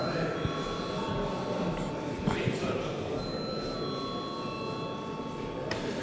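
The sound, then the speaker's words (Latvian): A steady electric bell rings for several seconds in the Latvian parliament, called before a vote on the Latvia–Turkmenistan air traffic agreement bill, its high sustained tones holding evenly over a dense background of murmuring voices and shuffling. “Paldies, lūdzu zvanu.”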